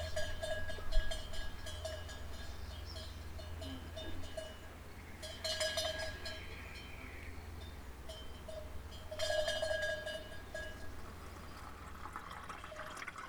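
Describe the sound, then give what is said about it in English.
Small metal bells on goats frolicking in a yard clank irregularly in uneven bursts, the loudest around the middle and near the end, over a low steady hum. No one speaks. “As you leave the house, you can hear the bells of the neighbor's goats frolicking in the yard.”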